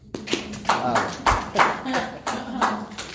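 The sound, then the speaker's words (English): Brief audience applause made of sharp, evenly spaced claps about twice per second, fairly loud and steady, with some faint voices murmuring underneath. “So the way we do these, round of applause.”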